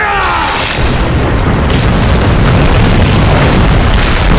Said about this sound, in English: The explosion of dusty diamond grit blew my hair back, scouring my eyes and filling my mouth with dry sand.